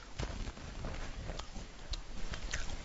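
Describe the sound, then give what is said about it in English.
Quiet crunching of someone chewing a goldfish cracker, with a few sharp crackly bites spaced irregularly over a low, muffled mouth rustle. No one speaks. “No, I literally took a bite of a goldfish as you said, asked me the question.”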